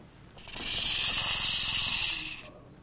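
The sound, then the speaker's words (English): A rattlesnake's tail rattle, heard on a trail in California: a steady, dry, high-pitched buzzing whir that swells in, holds for about two seconds, then cuts off sharply. No one speaks over it. “It was a rattlesnake. He's got a little warning on the end of his tail.”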